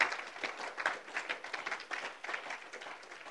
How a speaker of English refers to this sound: Why don't you give the Lord a clap offering this morning?